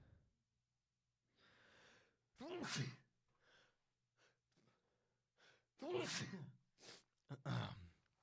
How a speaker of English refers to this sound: First ever sneeze on the Swole Is the Goal podcast.